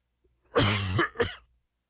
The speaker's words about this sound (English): I apologize in advance if there is any unexpected coughing today. My voice is way better than it was.